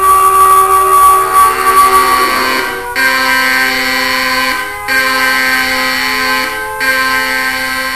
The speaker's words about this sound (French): C'est quoi cette alarme? Qu'est-ce qui se passe?